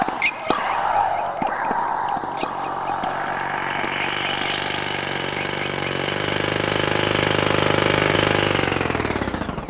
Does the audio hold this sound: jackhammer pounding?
yes